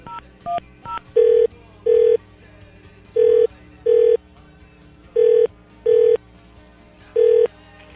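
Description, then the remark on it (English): A few quick touch-tone beeps of different pitches as a number is dialed to call the operator room, then a steady ringing tone in repeated double bursts with short pauses, fairly loud and with no one talking. “I'm going to call the operator room.”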